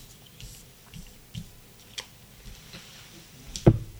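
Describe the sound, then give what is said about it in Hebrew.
Three tarot cards being drawn and handled for a zodiac-sign (Aries) reading: soft, irregular taps and light rustles, ending with one sharper slap of a card. No one speaks. “מזל תלה, אני יוצא לכל מזל שלושה קלפים ולפי זה אני אדבר.”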